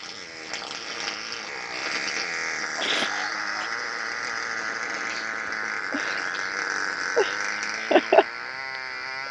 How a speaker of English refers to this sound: I'm going to play the one fart that I have. Are you ready?